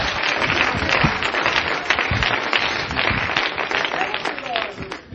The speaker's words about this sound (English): Somebody clap your hands unto the Lord right now.